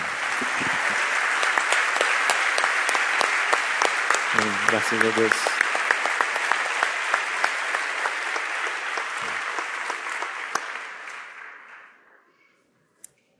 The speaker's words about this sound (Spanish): ¿Por qué no le damos un aplauso a Dios por los pastores que...?